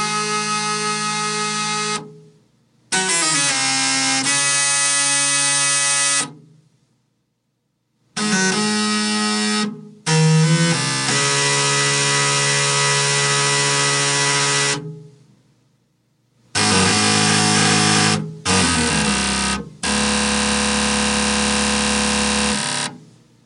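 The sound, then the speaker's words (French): Buzzy, mechanical tones from old computer hardware, a printer and floppy disk drives programmed to play music, here a piece by Bach, come in loud bursts separated by short silences, with steady harmonic notes and a gritty, humming edge. “C'est même pas des contrôleurs de jeux vidéo, c'est carrément du vieux matos informatique. Imprimante, lecteur de disquettes, tout ça programmé pour reproduire les thèmes musicaux.”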